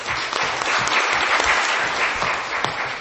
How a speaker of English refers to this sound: Please give me a hand of applause for the three gentlemen on our panel.